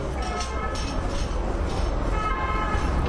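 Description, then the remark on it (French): A fire engine siren blares in steady, horn-like tones over a constant heavy rumble of traffic, loud and continuous for the whole stretch. “Sirène des pompiers.”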